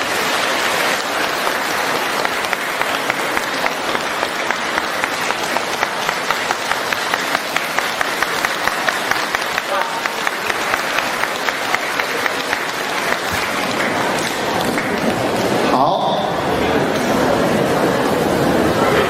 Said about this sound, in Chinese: 让我们用热烈的掌声恭请大慈大悲的卢军红台长。